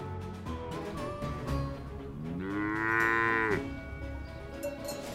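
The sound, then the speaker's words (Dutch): Cattle, led by a cowboy through the dry wilderness of Wyoming, low and moo over a steady herd background, with one long, loud rising moo in the middle standing out above overlapping calls from other cows. “Als hij zijn koeien door de droge wildernis van Wyoming leidt, weet hij nog niet dat hij die dag de hoofdrol zal spelen in een opzienbarende”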